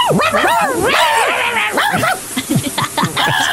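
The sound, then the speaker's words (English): A person voices a quick run of loud bark-like yips and whimpering dog sounds, with no real dog present, just a human mimicking excited barking in short bursts. “I wonder if dogs bark inside their heads like we speak inside ours. Bark, bark, bark, bark, bark.”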